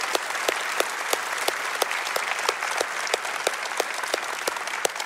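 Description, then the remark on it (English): A large church audience at Centerville claps steadily and loudly to affirm the Beaver Creek audience ahead of its grand opening in two weeks, a dense wash of overlapping handclaps lasting several seconds, with sharper individual claps popping out of the roar. “all of you right here at Centerville, by a massive round of applause, would you affirm Beaver Creek as they're getting ready for their grand opening in 2 weeks?”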